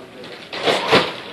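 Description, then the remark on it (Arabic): A door swings open with a rough, sweeping rush of noise that swells for about half a second. “افتح لي الباب”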